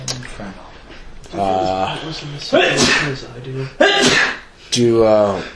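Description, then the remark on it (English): A sharp sneeze bursts out amid voiced, drawn-out vocal sounds, fairly loud and sudden against the surrounding talk. “Bless you.”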